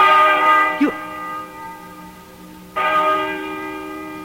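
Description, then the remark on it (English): A large, resonant bell tolls twice, each deep strike ringing out with a long shimmering decay before the next one lands, fairly loud and unaccompanied by voices. “Listen to that bell.”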